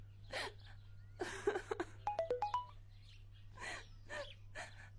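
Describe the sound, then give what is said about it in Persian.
A phone's text message alert chimes mid-clip, a quick run of five bright electronic notes stepping up in pitch, clear and crisp, surrounded by soft breathy, muffled noises and a low steady hum. “صدای پیامک هست.”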